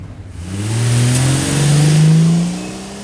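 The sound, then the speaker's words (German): A Buick car engine revs up and accelerates away, its rising mid-range growl swelling to a loud peak before starting to fade. No voices are heard. “Habt ihr auf das Kennzeichen des Buick geachtet, Kollegen?”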